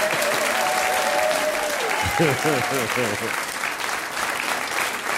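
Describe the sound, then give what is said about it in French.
An audience applauds the orchestra, before it has played, steadily and loudly for the full few seconds, a dense wash of clapping, while a voice speaks briefly over it partway through; the weather is fine. “que je vous demande d'applaudir avant même qu'ils aient joué.”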